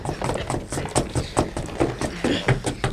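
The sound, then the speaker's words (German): Several feet stomp heavily on wooden floorboards, searching for a spot that sounds hollow, a busy stream of irregular thuds and knocks that continues throughout without pause. “Trampelt auf dem Boden herum, bis ihr eine Stelle findet, die auffallend klingt.”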